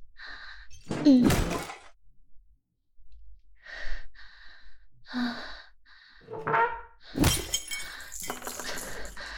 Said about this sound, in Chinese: 哎呀！姐姐，你轻点吧，崩碴子都崩到我脸上了。